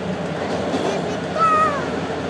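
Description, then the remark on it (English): Steady, loud rumble of a subway car in motion, heard from inside, with a thin metallic squeal rising briefly near the end over the constant roar. “We're on the subway, and I got my coat done up.”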